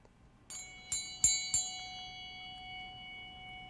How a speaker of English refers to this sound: Did you see the bell that I brought with me? I want you to hear it ring.